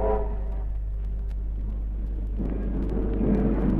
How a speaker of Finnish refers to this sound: Juna vyöryy ohitseni